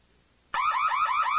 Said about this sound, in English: Hearing the alarms as he and Jason stood together in the turbo lift, Luke realized that R2, still standing sentry duty in the grand audience chamber, must have triggered them.